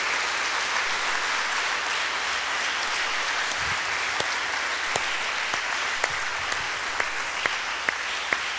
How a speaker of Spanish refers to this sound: ¿No se alegran con esto? ¿No le dan un aplauso al Señor porque es el Todopoderoso?